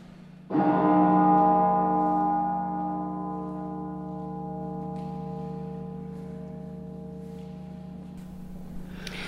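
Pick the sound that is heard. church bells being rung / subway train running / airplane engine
church bells being rung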